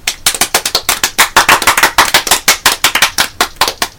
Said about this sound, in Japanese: 拍手。